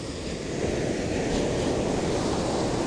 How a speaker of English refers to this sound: There are some surfer, small waves. I'm checking a wave. Can you hear wave sound? It's 16 degrees, beautiful day.